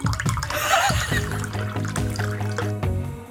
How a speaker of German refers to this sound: Warte mal, ich gieße mir erstmal einen Ramazzotti an, der macht das Original so.